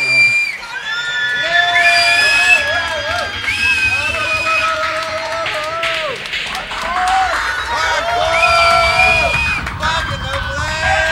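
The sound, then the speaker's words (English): A loud, dense crowd cheers and shouts continuously, with high whoops and yells rising over a steady roar of many voices for the full stretch. “Crowd is insane.”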